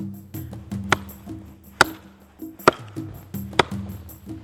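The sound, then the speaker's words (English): Sharp, loud hammer blows land at a steady rhythm, roughly one each second, five in all, as men dig and hammer near a home, with thick wires and wooden poles around them. A low, steady droning hum from the digging work fills the gaps between strikes. “Some men are digging and hammering near his home.”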